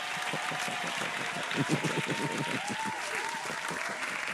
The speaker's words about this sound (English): Clap, clap, clap. Slap, slap, slap. Slap, slap, slap. Clap, clap, clap. Clap, clap. Clap.